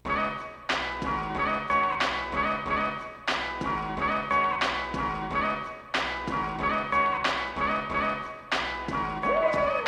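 A full-band pop song plays at steady volume, with regular percussive hits marking a brisk beat under layered instruments and harmonic tones; no voices stand out.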